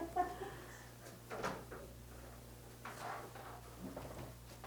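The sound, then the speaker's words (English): A door being opened: a few soft knocks and rattles of a handle and latch, spread over several seconds, fairly quiet over a steady low electrical hum. “Oh, is that door locked?”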